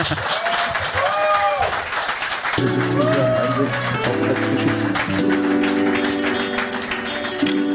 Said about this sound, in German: Geil wäre ja, wenn man mal so Intro-Applaus bekäme. So einmal so einen richtigen... So ein kleiner Applaus, meinst du? Von mir für dich, oder? Ne, so ein Applaus.